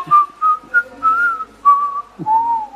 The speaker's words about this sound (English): Could you whistle the tune so people that are listening can guess what it might be?